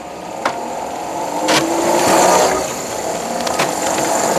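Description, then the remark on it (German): A blue, roofless, single-seat hydrogen-powered go-kart, about 2 m long and 1 m high, with a top speed of 27 km/h, drives along with a steady whirring motor and a thin constant whine, loudness swelling briefly midway, broken by a few sharp knocks and rattles. No one speaks. “Das Wasserstoffauto fährt.”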